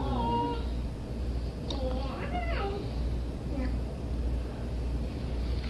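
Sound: cat meowing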